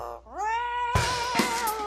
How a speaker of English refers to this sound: Lucy the Amazon parrot says no.